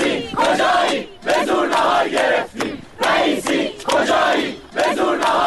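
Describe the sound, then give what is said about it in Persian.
Students of the University of Guilan chant a new slogan in unison announcing they got their lunch, loud rhythmic bursts repeating about five times with short pauses between each shouted phrase. “دیروزم که یه شعار اختصاصی دانشجوهای گیلان، دانشگاه گیلان دادن وقتی سر صرف دختر و پسر کنار هم نشستن و مسئولین دانشگاه بهشون غذا ندادن و همون دانشجوها چند ساعت بعد که نهارشون رو گرفتن با یه شعار جدید گرفتن نهار رو اعلام کردن.”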